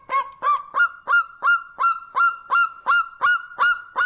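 A golden eagle call: a steady series of about a dozen short, sharp yelping notes, roughly three per second, loud and evenly repeated with no voices.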